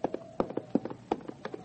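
horse hooves clip-clopping

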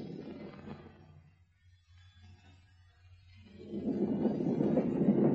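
approaching steam train

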